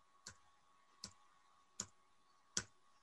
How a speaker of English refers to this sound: So I'm just going to tap the H key in the speed of the tempo I'm looking for, and I'll move my keyboard as close to the mic as the vocal booth would allow and bang it hard, and hopefully you'll be able to hear it.